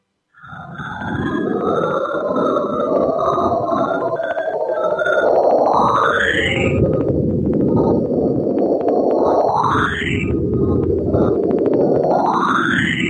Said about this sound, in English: The evidence suggests that each tone is produced by the impact of a meteorite on the chunky ice rings.